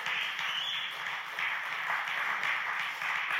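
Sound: audience cheering and clapping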